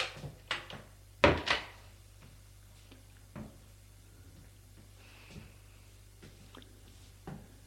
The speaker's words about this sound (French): Des portes que l'on ouvre et que l'on ferme.